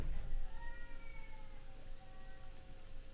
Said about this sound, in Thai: เฮ้ยเสียงอะไรวะเสียงแมว